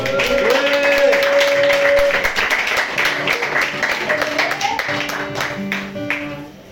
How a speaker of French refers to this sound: Donc le pont, je l'ai pas vraiment, mais j'ai des super musiciens. On peut applaudir à nouveau, s'il vous plaît.